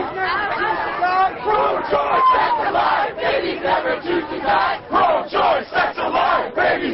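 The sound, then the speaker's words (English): Thousands of anti-abortion marchers from around the United States chant and shout together at the annual March for Life in Washington, in bitter cold, marking the 30th anniversary of the 1973 Supreme Court decision legalizing abortion: loud, rhythmic bursts, many voices blending into a continuous roar with brief dips between phrases. “Thousands of abortion opponents from around the United States marched in Washington Wednesday”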